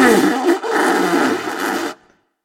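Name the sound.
loud nose blowing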